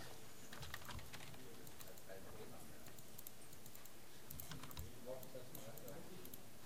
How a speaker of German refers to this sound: Also ich glaube, er druckt oder beziehungsweise er blinkt jetzt rot. Seid ihr euch sicher, dass das Papier hat? Ja, das habe ich nachgeprüft. Da ist auf jeden Fall was drin.